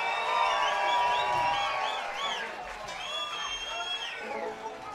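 An audience applauds and cheers, with rising and falling whoops and shouts riding over steady clapping for about five seconds, starting loud and easing slightly toward the end.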